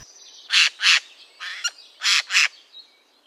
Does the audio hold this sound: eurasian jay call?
yes